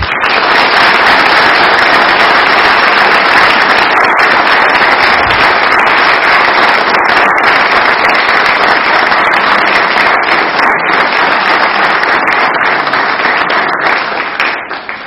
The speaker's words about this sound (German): Vielen Dank euch allen und da darf die Gemeinde gerne noch mal klatschen.